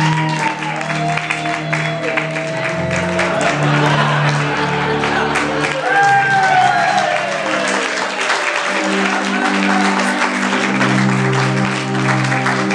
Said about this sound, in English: I give you, ladies and gentlemen, I want a huge round of applause as he opens it, right?